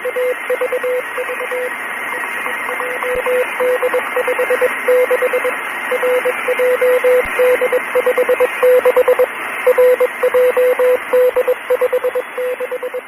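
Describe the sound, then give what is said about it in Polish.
A steady high-pitched Morse code tone beeps in short and long pulses over a hiss of shortwave radio static, repeating in a continuous keyed rhythm with no voices: Morse code cycles from a radio station that stopped its broadcast on 1 September at 04:05 UTC. “1 września o godzinie 4:05 czasu uniwersalnego stacja przestała nadawać, z tego można było usłyszeć cykli Morsa.”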